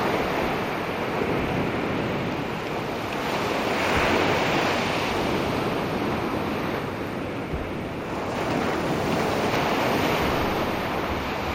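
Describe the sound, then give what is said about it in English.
Ocean waves roll and break on a beach in a steady, continuous roar, swelling and receding in slow surges, with some wind noise buffeting the microphone and no voices. “What a relaxing thing at the beach.”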